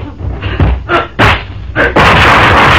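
Four sharp gunshots ring out at uneven intervals, loud and harsh, followed by a sustained burst of rough, hissing noise that carries to the end.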